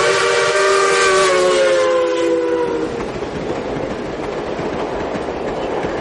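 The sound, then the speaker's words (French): Industrial machinery conveying steamed cooked rice, shovelled onto a conveyor belt and carried into a machine: a loud, steady mechanical roar with a shrill, whistle-like hum layered on top for the first half, then continuous rumbling and clattering. No voices. “C'est du riz qui est transporté par un tapis roulant dans une machine.”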